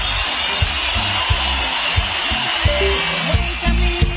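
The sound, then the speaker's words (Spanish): A dense, steady wash of applause on a radio broadcast, for the day's birthday celebrant among the listeners, runs unbroken throughout, hissy and even in loudness, with soft low thumps recurring at a regular beat underneath. “Ok, esos aplausos no son para mí, esos aplausos son para el cumpleañero del día de hoy, que nos está sintonizando fuertemente.”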